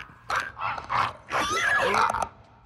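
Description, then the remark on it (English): Raspy, guttural clicking cries from clicker creatures in a video game come in several bursts over a few seconds, rising and falling in pitch, with a longer, louder stretch near the end and no speech. “I can hear those clicking sounds all around the room.”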